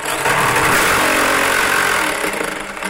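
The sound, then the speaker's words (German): An electric jigsaw cuts a 37.5 cm circle through a Plexiglas plastic sheet with a loud, harsh, rattling buzz that runs steadily throughout and eases slightly toward the end, with no voices. “die will ich jetzt mit dieser Stichsäge rundschneiden mit einem Kreis von 37,5 cm.”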